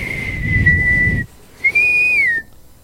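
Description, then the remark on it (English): A person whistles two sustained, steady tones separated by a short pause, the first with breathy rushing air beneath it, the second slightly higher and gliding down at the end. Clear. “I can barely do it while blowing out.”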